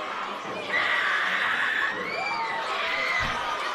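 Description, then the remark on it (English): A crowd of children at a baseball game shriek and scream together at high pitch, reacting to the Red Ears mascot, Rhubarb; loud and sustained for several seconds, with overlapping excited voices and some laughter mixed in. “No, those are not screams of terror. That's children reacting to the Red Ears mascot, Rhubarb.”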